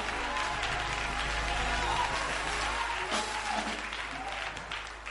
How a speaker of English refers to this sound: Oh, you ought to clap your hands right there.